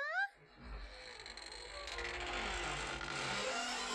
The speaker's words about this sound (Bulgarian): Дръпни връвчицата, дето виси на вратата и резето само ще се вдигне!